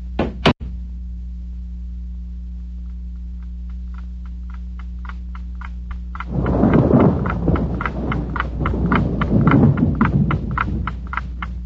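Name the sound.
thunderstorm with rolling thunder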